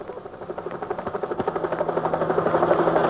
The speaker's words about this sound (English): Overhead, a helicopter windmilled toward the shambles. Under the civil defense crash plan, food was being flown in.